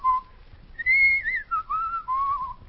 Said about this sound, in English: He insisted that we come home from the theater in a taxi cab and then found the radio wasn't working. But he wanted music so badly that he whistled for me.